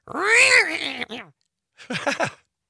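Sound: cat meowing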